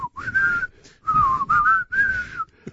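A person whistles a short, wavering tune in several sustained phrases separated by brief pauses, close and fairly loud, with no one talking.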